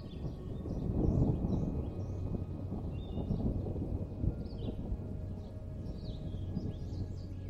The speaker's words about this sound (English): and just when you thought this place couldn't possibly get any more relaxing, you hear a gentle rumble of thunder off in the distance as a light afternoon rain shower makes its way towards the cabin.